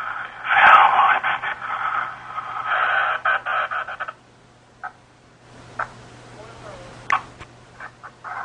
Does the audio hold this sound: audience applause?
no